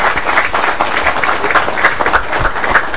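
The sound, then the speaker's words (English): Steady audience applause for two organizers as they stand up, a dense wash of many hands clapping at once, sustained and fairly loud throughout with no voices standing out. “if you guys want to stand up, you guys get a round of applause.”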